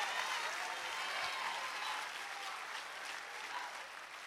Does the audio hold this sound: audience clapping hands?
yes